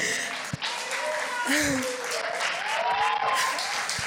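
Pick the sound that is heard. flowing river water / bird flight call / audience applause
audience applause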